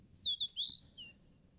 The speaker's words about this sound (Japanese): 鳥のさえずりが聞こえる。